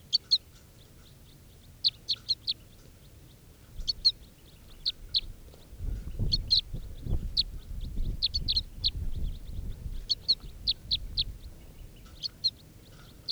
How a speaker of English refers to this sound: And these are the begging calls of, oh, I got a crossbill with a net now, it's an orange male. And this is the begging of bird 432.